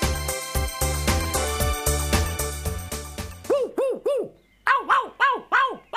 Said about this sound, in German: Hey, du kannst doch nicht einfach nach mir pfeifen.